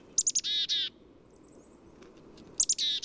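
Two bursts of chickadee calls, each a few quick high notes followed by buzzy, harsher notes, ringing out clearly over a quiet background, with a short pause between bursts.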